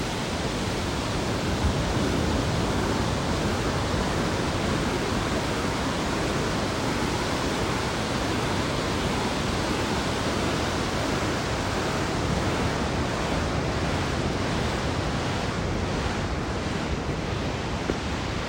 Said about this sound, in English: Not putting my feet in until we get there, but I am at the beach, at the water now. What do you hear?